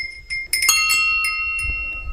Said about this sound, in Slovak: Aké zvonce vidíme tuto?